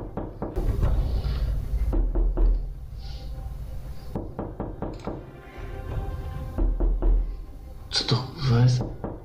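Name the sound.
knocking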